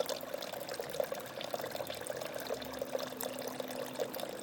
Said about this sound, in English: Here we are. Let me sit down next to it. There we are. That's our water feature.